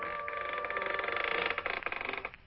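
creaking door sound effect

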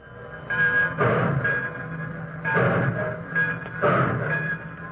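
passenger train departing station

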